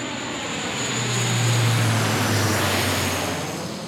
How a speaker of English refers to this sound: Then if it's safe, he does the show-me run. The lead plane, woo, right above us.